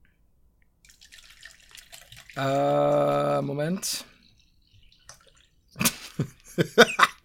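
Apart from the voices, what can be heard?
person drinking water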